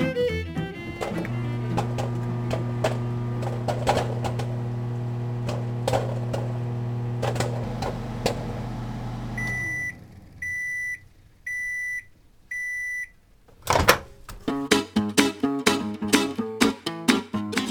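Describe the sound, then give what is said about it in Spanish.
A microwave oven hums steadily for several seconds, then stops and gives four evenly spaced electronic beeps before a burst of clattering, rhythmic mechanical noise starts up. “¿Quién no ha preparado una rica bolsa de palomitas en el horno de microondas?”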